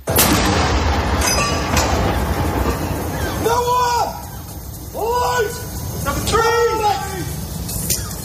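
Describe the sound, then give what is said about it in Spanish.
Cannon salute rounds boom at intervals of a second or two over a steady crowd murmur, with rising and falling tonal calls between the shots; gun salutes fired on a Saturday morning alongside bells and proclamations across the country. “De nuevo, las salvas de cañones, las campanas, las proclamaciones por todo el país han protagonizado esta mañana de sábado.”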